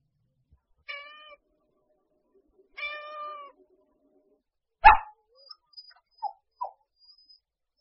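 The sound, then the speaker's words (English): Two clear, drawn-out cat meows about two seconds apart, the second longer, followed by a sharp burst and a few short faint yelps and clicks. “Do you like cats?”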